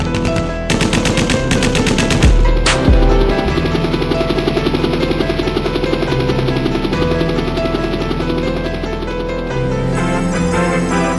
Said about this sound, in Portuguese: Estamos aqui diretamente do local onde acabamos de registrar uma troca de tiros de uma quadrilha de assaltantes fortemente armada com a polícia local, onde o objetivo era roubar para financiar a liberdade de um detento perigoso,